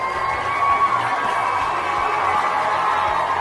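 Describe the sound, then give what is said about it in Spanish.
Loud, steady applause from a crowd welcoming a special guest onto a show, a dense wash of clapping with some cheering that holds at constant intensity for the full few seconds, with no speech over it. “Nos vestimos de lujo para recibir con un fuerte aplauso al máster Jorge Aparicio.”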